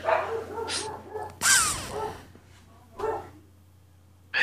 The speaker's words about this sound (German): So, wer die Hunde bellen hört, da hat sich wohl jemand im Haus einfach bewegt.